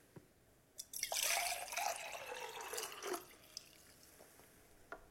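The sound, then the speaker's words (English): Water, either hot or cold, is poured as the first of two pours in a hot-versus-cold listening test, a steady splashing stream for about two seconds, its pitch gliding downward as the vessel fills, then stops, leaving a few faint drips and clinks. “Which is hot, which is cold? This is pour number one.”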